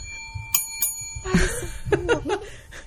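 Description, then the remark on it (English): A small bell rung by a four-year-old girl rings twice in quick succession, its bright tone lingering and ringing out, followed by giggling and chuckling voices. “Every time you hear the bell, that's her ringing.”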